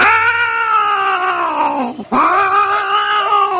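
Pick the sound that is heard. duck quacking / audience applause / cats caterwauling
cats caterwauling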